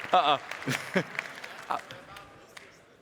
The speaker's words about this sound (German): Danke, danke. Dafür wollte ich keinen Applaus.